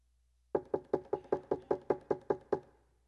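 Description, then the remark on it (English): A rapid series of about ten firm knocks on a wooden door, evenly spaced, with a brief hollow ring after the last one and no voices. “There was a knock on her door.”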